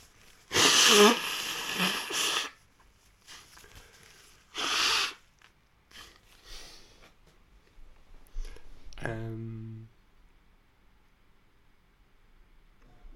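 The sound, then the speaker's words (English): A person with a snotty nose blows it twice: a long, loud, rough honk followed by a shorter blast, then a brief voiced murmur. “Gonna blow my nose.”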